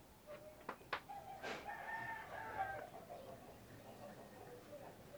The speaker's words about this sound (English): The chicken around here, yeah? Yeah, the next neighbor. The neighbor. Yeah. He raised them for fight.